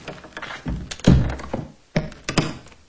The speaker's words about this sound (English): slowly closes the door of her bedroom, where her husband still lies motionless on the bed.